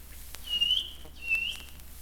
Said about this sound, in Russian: И слышу я, где-то за частым ельничком серенькая птичка пищит.